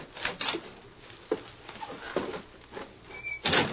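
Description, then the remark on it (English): The wooden door of a little shack on the edge of the town of Sand Springs is pushed open with a series of scraping, creaking rubs and knocks, ending in a louder scuffing burst; no voices. “Go on, open the door, Lacey.”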